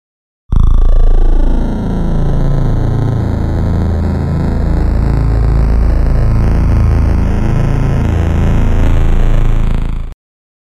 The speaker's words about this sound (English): Suddenly, an incredibly loud buzzing came from every direction.